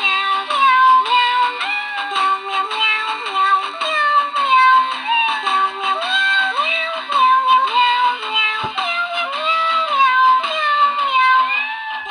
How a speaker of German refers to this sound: Das ist nämlich eine klingende Geburtstagskarte und ich mache die jetzt mal an, damit ihr auch was davon habt. Miau, miau, miau.